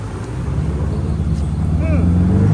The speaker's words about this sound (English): Oh my gosh, what is that? It's an unidentified flying drone.